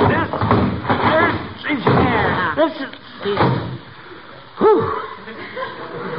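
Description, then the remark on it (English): A heavy old trunk is hauled into a house and set down with a few dull thumps and a knock, while voices grunt and strain with effort throughout, ending in a loud thud. “That's the heaviest piece of luggage I ever saw.”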